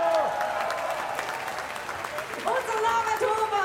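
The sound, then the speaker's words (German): A crowd in a beer tent in Upper Austria cheers and claps loudly and steadily at an FPÖ rally as presidential candidate Norbert Hofer makes his way to the podium, people waving red-white-red flags; many voices whooping and shouting over a continuous wash of applause, with a few higher cries rising above the noise. “Die Menschen jubeln, schwenken rot-weiß-rote Fähnchen.”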